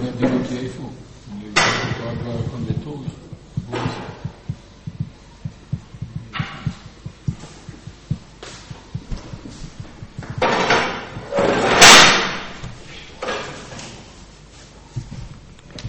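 A chair is dragged and set down, with a few scraping bursts and dull knocks, the loudest scrape near the end, amid the murmur of people; the chair is being brought for someone to sit on.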